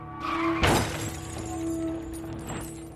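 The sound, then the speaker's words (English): A car slams into a tree: one sudden, loud crunching impact with shattering glass as the airbags deploy, over a steady low engine hum, followed moments later by a fainter rattling clatter. “The crash wasn't bad, but the airbags deployed.”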